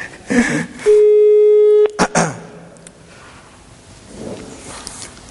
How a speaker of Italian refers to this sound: Allora, io prendo la linea, ecco la linea, e facciamo questo numero.